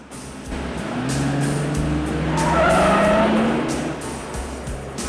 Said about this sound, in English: Looking pleased with themselves, the cops give chase to Andrea, who's fleeing in her car.